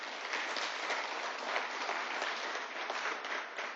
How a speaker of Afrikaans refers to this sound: Het iemand iets geleer vanaand? Geef vir Here 'n groot hand met klap.